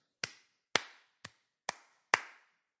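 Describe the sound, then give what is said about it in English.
Five sharp hand claps, crisp and moderately loud, each ringing briefly before the next, at a slow, slightly uneven pace; the third is noticeably softer. No one speaks. “To clap, C-L-A-P, is to put your hands together to make a noise, like this.”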